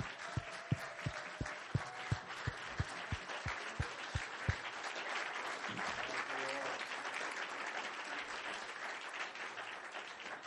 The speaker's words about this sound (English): I know there's several pastors in this building and their families, but if you love your pastor and his family, would you give them a big round of applause, whoever they are, amen.